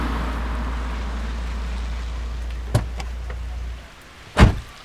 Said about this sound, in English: Both of them stepped out into the rain to see nothing.